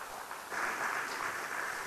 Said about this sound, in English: With that, how about a big round of applause for a great panel? Thank you all very much.